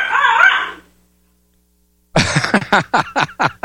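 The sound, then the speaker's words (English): The speaker's dogs bark in a quick, loud series of sharp yaps, following a brief higher-pitched whine and a second of silence. “My dogs.”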